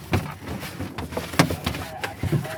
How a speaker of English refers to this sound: The turtle thrashes about, then takes a few gasps of air. Pretty clean shell, surprisingly. This is an olive ridley, about a size of a mature female. The turtle's mottled green shell is called a carapace. It's roughly the size of a manhole cover.